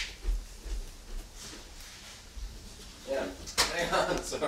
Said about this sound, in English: Sorry. I had to move the door.